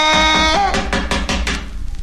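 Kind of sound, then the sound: household object, knocking on a door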